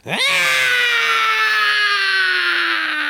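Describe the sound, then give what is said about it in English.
One loud, piercing scream swoops up sharply in pitch, then holds for about three seconds while slowly sliding lower. It is unbroken, with no talking. “screamed as Maeve returned the Holy Grail to her furry cup.”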